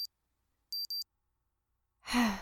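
An alarm clock beeps in high, thin electronic tones, a brief beep and then a quick double beep, followed after a pause by a breathy sigh.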